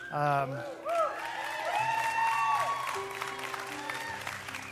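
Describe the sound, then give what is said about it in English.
A crowd breaks into steady applause mixed with rising whoops and cheers, a dense wash of clapping that holds for several seconds while voices shout over it. “Let's cheer these guys on.”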